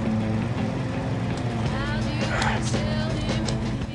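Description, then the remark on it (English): Damon's car driving along a road, its engine humming steadily with constant road rumble from start to finish, fairly loud, with faint higher sounds drifting over it. “In Damon's car. Getting close.”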